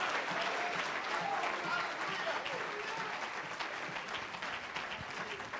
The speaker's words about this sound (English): If you love his word, clap your hands, lift your voice.